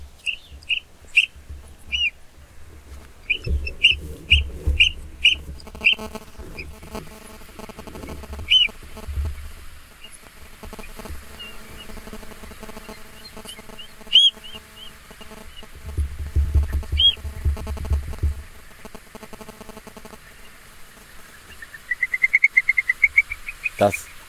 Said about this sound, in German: Ich lasse den jetzt mal abspielen. Ja. Vogel. Strandvogel.